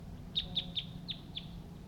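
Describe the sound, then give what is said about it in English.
Two male wild birds call from the trees in a quick run of five short, high-pitched chirps, spaced almost evenly, over a low steady background rumble with no talking. “Two male wild birds are calling at this time.”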